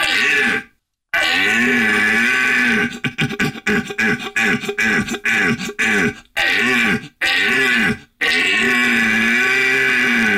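red deer stag bellowing

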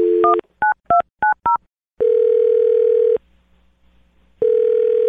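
telephone number being dialed

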